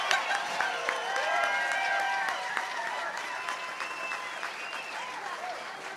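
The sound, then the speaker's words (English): An audience claps steadily after a bluegrass band's performance, trying to bring the band back out. The applause is a dense, sustained wash with whoops and cheers rising above it, loud and full from start to finish. “I bet if you clap harder, they might come out.”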